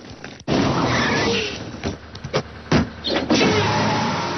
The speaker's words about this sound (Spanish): Al día siguiente, en el jardín, Abraham y Homer bajan del coche.